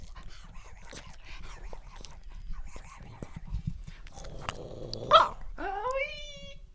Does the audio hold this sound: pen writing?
no